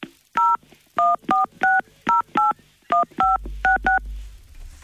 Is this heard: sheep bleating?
no